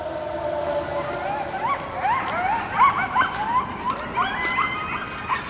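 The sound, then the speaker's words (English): A pack of wild coyotes in the Presidio howls and yips, several wavering voices overlapping and answering one another in rising and falling cries, set off by the Tuesday noon siren of the citywide alarm system next to their den, with no talking. “Those are the cries of coyotes. That howling call and response was triggered by the Tuesday noon siren.”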